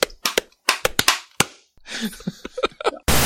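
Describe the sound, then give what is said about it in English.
A group claps hands to sync their recordings, each person clapping three times, in a ragged burst of sharp, loud smacks, about eight claps landing unevenly rather than together, followed by muffled voices and a brief hiss of noise. “Let's each clap 3 times.”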